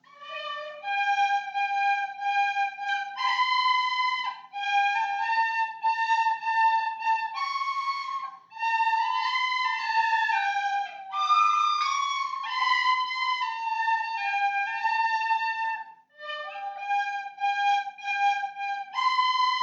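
A small group of children from 3rd and 4th class play Molly Malone together on tin whistles, bright, shrill notes with slightly uneven unison and a few breathy slips, continuous for the whole stretch with no talking.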